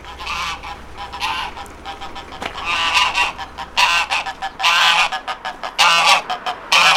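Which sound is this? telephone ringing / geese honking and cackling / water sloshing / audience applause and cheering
geese honking and cackling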